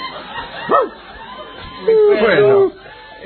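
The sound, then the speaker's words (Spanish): A voice imitates a dog, giving one sharp yelping bark and then a longer, drawn-out whining howl, both loud with little else around them. “Yo se lo traigo acá al perro, encantado.”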